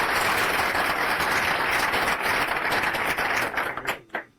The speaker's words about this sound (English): Round of applause for the speaker, please.